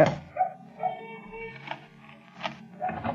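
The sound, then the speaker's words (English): A dog at a home barks and howls, mixing short sharp yelps with drawn-out wavering cries, with no talking over it. “Well, at least the dog's at home.”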